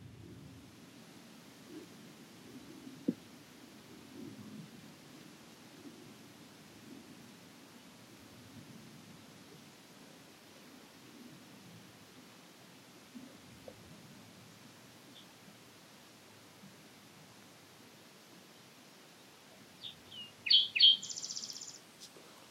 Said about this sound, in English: Wait, let's just sit and see if the bird calls will go in. Okay.